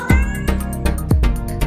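A tomcat meows several times in quick succession, loud, each cry sliding downward in pitch, with no talking around it.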